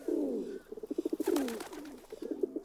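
A pigeon coos, with soft throaty warbles that break into a quick run of pulsing notes. A brief rustle cuts in midway, then the cooing resumes.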